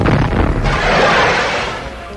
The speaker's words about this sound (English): Oh, that explosion nearly cracked the record.